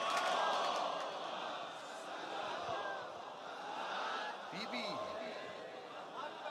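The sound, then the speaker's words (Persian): A large crowd chants a salawat blessing together in a loud, steady roar of many voices, with overlapping shouts and a rising, falling swell across the whole stretch. “یه صلوات بلند بگید”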